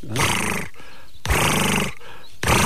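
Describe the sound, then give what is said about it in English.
A person imitates a turtle dove's purring call with their voice: three loud, rough, rolling purrs, each lasting about half a second, separated by short pauses, the last one cut off. “The turtle dove's got a purring call.”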